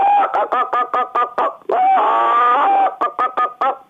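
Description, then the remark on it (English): A person imitates a hen about to lay, giving a run of short, rhythmic clucks, then a long drawn-out wavering squawk, before returning to quick clucking. Loud, no other sounds. “You've got a hen that wants to lay an egg like this.”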